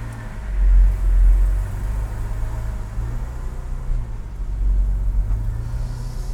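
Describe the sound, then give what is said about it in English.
Steady low engine rumble from inside a moving car with its windows rolled up and sunroof open, a continuous drone with road noise that swells slightly at moments, no voices. “We are off for a little bit of car therapy today.”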